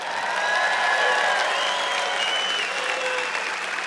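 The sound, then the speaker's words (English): An audience claps weakly in a steady, dense patter that holds at moderate loudness throughout, with a faint murmur of voices underneath and no cheering. “Well, you're clapping weakly, but I'll keep at it.”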